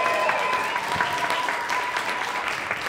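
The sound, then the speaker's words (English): An audience applauds a panelist, a books columnist, as he is introduced at a panel event. The clapping is steady and dense, staying fairly loud and even throughout, a continuous wash of many hands with no voices standing out. “Thanks, everyone, for applauding and for coming.”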